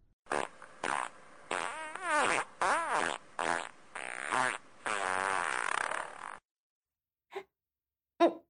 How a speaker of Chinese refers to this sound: 你不要对着我脸放屁嘛。臭死了，好臭啊。